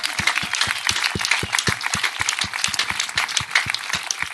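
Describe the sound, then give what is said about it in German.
Sustained applause from an audience for the cultural officer of the municipality of Wölversheim, dense overlapping claps forming a steady wash with some sharper individual claps standing out in a fairly regular rhythm, moderately loud, with no talking. “Und ich bitte um einen ganz, ganz großen Applaus, ja, mal für ihn.”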